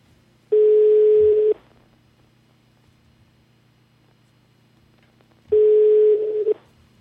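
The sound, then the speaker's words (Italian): The telephone of the radio show La Zanzara rings on the line in a call to Belgian Member of the European Parliament Marc Tarabella: two long electronic tones about a second each, separated by a quiet pause of several seconds, heard clearly with no talking. “Squilla il telefono della zanzara.”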